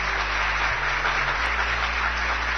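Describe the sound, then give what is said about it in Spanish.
An audience applauds to welcome a guest historian, with a steady, dense wash of clapping that holds at an even level for the whole few seconds, with no voices over it. “¡Aplausos!”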